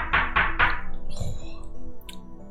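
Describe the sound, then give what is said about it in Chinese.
Three quick, evenly spaced knocks ring out fairly loud, like a fist rapping on the door of the Paiyun mountain lodge on a day of heavy rain, followed by a duller thump and some quiet background noise. “哎，外面又有人敲门。”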